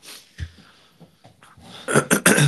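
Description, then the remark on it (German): A dog barks several times in a quick, loud burst near the end, sharp yaps after a brief quieter stretch with a few soft thumps. “oh, jetzt bellt der Hund.”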